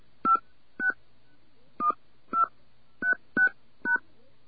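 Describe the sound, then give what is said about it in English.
Seven short telephone keypad beeps as a seven-digit number is punched in, in uneven bursts: two, then two, then three quick ones. Each tone is brief and steady-pitched, with no voices. “Okay, I'm going to enter those numbers again.”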